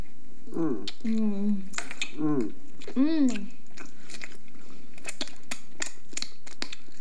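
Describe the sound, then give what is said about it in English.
Someone eats a small cooked bird with hot sauce, using cutlery: a few voiced murmurs and chewing sounds at first, then a run of sharp, quick clinks of cutlery against a plate. “A little bit of hot sauce, that little bird tastes just like chicken, son. Ooh, you gotta eat this part right here. Get up in there and get that gristle.”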